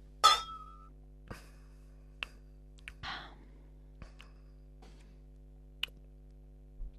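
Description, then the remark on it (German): Beer glasses clink together once in a toast as two people say cheers before tasting the beer, a sharp ringing chime at the start, followed by a few soft taps, a quiet breathy rustle, and near silence. “Aber lass uns das erstmal jetzt probieren. Zum Wohl.”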